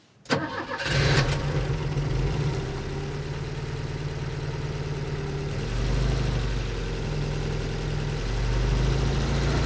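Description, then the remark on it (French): An old Volvo estate car's engine cranks as the key is turned in the ignition and catches, then settles into a steady, rumbling idle, its low throb holding loud and even with a slight shift partway through. No voices. “André a une vieille Volvo Break, celle qu'on voit dans tous les films d'auteurs français.”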